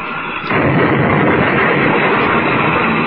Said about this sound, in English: They did. The ships are locked together. But both of them are out of control. They've crashed.